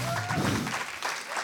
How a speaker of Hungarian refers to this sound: Én nagyon szeretek tapsoltatni, biztassuk a szerzőket,